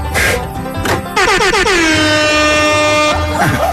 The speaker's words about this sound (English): So much so, I hope you'll kindly excuse me while I dust off the Colonel's air horn.